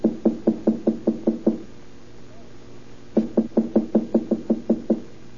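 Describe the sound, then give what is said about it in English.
Two quick, firm series of knocks on apartment door number 3, about eight raps, a pause of a couple of seconds, then ten more, clear with no talking. “Wait, I'll knock first.”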